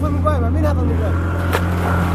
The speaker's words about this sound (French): L'un des passeurs est en maillot de bain. C'est lui qui a démarré le bateau.